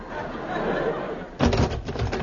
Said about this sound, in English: Hear that sound, listeners? A door.